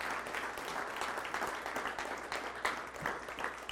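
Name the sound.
audience clapping and cheering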